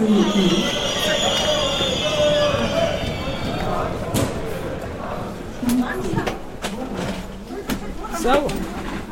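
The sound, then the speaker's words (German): Busy train station ambience with many people from Frankfurt present: a crowd murmurs steadily while sharp clanks and thuds ring out, and a high metallic squeal, like train brakes, sounds during the first few seconds. “Allerdings sind wir am Bahnhof nicht allein, sondern auch ziemlich viele Frankfurter.”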